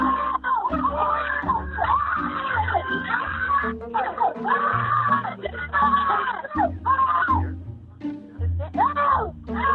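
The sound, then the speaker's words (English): A group of children scream and shriek together at full volume as an adult asks them to, their high voices overlapping in a continuous, chaotic din that barely lets up for about ten seconds. “I want you guys to scream as loud as you want.”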